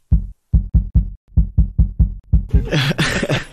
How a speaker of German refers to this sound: Ich will einmal bei dir Puls messen. Darf ich mal Puls messen bei dir? Ich halte mal kurz das Mikrofon an deiner Halsschlagader.